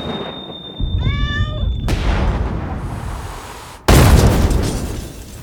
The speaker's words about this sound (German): Explosionen und Feuerwerk können meine Requisiteurinnen und Requisiteure nämlich auch.